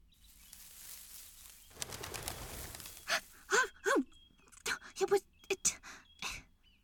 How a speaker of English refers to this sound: It was a quail. Another bird. Not a goblin.